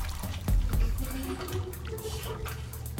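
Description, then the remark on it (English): Water sloshes and splashes continuously, with a few sharper watery bursts and bubbling, moderately loud, as someone swims up through water to the surface, looking straight up. No one speaks. “Now, swim to the surface, looking straight up.”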